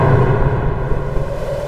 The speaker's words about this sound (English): It's not very good thunder, but it's thunder.